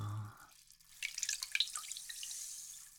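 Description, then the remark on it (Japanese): A hand swishes through hot bathwater with soft splashes and fizzy, bubbly trickles, a low hum fading at the start, then irregular watery sloshes continuing steadily to the end. “お湯を手で混ぜると、シュワシュワってして、気持ちいいですよね。”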